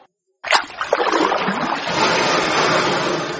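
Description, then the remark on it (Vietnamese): A sudden burst of splashing water at the start, then a steady rushing wash of churned water continuing, as a woman hastily paddles a small boat briskly away. “Người đàn bà lật đật quơ dầm lên bơi xuồng đi ào ào.”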